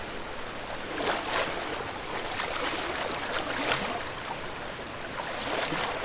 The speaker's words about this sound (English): Maybe I should wash my face in this oddly convenient waterfall.